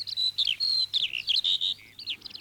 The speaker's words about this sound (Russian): Бедняжка-жаворонок громко жаловался на свою неволю. Метался и бился о железные прутья клетки.